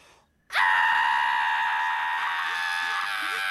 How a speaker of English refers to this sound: Ah! What are you doing? Screaming. I find that it calms the spirit. Ah! Matter of fact, let's all scream. Ah! Yeah. See, it works.